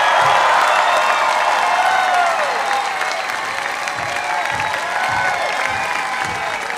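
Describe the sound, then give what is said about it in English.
A large crowd applauds and cheers at the end of a band's concert set: dense, steady clapping with overlapping whoops and high shouts, staying loud and unbroken for the whole stretch. “This crowd absolutely loving the show, smiling, singing with all the words to almost every song.”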